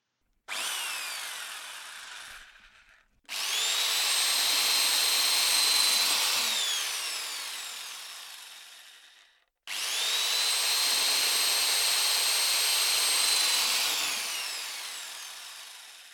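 An electric drill boring holes into wood in three long, loud bursts, each a steady motor whine that strains and drops in pitch as the bit bites, with short pauses between.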